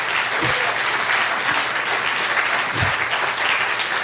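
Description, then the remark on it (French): Sustained applause from a crowd giving a round of applause to God, a dense wash of many hands clapping at steady loudness for several seconds, with a few faint low thumps or voices underneath. “On peut donner une bonne main d'acclamation à Dieu.”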